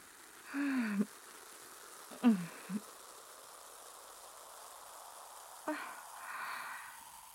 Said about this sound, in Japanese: はい、それでは炭酸ヘッドスパを始めていきます。ゆっくりと髪に炭酸をかけ、 体の力を抜いて、炭酸のパチパチ音と頭皮にスーッと染み込む感覚をお楽しみください。